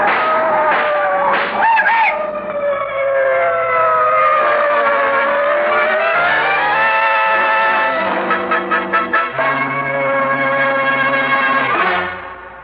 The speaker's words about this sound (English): Cribbit, those cars! What the... They're coming this way, Jeff! Quick, they'll hit you!